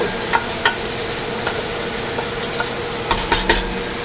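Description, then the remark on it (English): Meat sizzles steadily in a hot pan as it browns, a continuous hiss dotted with a handful of sharp pops and crackles, with no voices. “I'm gonna turn the fan off while I finish up the show while you hear the sizzle.”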